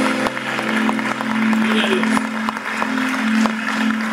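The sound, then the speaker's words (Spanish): An audience at a morning church worship service claps steadily and densely in praise to God for the whole stretch, a loud continuous wash of applause with a sustained low instrumental tone droning underneath. “gloria, Señor, que está aplaudiendo.”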